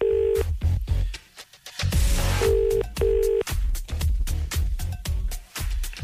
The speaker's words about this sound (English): Where am I ringing? Kildare. Beautiful Kildare. Mm. Wet Kildare. Wet Kildare. I'm going to put it on line two, but you're right on it. Oh, there we go. It's ringing.